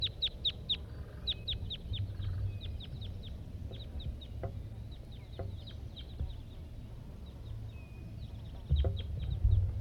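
A wild red male red crossbill calls in flight at 9 a.m. in quick bursts of sharp, high 'kip' notes, with scattered pauses between series, over a low, steady rumble of background noise.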